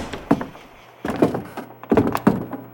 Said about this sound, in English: The four men hurried down to his newspaper office. There was a big gaping hole in the front window. Denham unlocked the door.